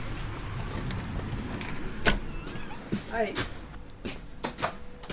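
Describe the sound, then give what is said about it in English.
The door of an army surplus store in St. Johnsbury opens with a sharp clack and a few rattling clicks, over a low room hum, followed by a brief spoken greeting. “This is Kaplan's Army Store in St. Johnsbury.”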